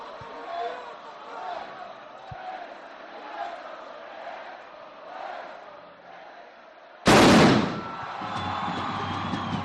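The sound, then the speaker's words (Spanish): A crowd murmurs for several seconds, then a single sharp, booming gunpowder discharge from festival firearms bursts out, the artisans' discharge and the last of the day, followed by a sustained rush of noise and crowd sound. “Sabe que ha sido su última descarga.”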